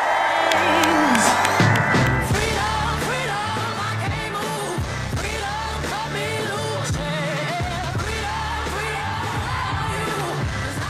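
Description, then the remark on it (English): A large crowd at a Kamala Harris campaign rally, just north of Eau Claire at a former country music festival grounds, cheers and whoops loudly and continuously, a dense roar of many voices with scattered shouts rising above it, sustained without a break. “Vice President Kamala Harris speaking to a rather large crowd in just north of Eau Claire at the site of a former country music festival grounds.”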